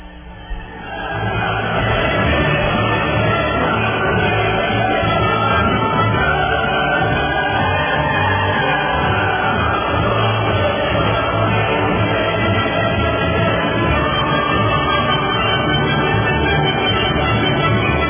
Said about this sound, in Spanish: Así que bueno, un aplauso y el himno de la alegría del maestro Beethoven al padre Andreu Oliva de la Esperanza.